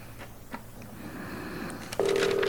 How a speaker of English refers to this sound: Come on, John, answer your phone.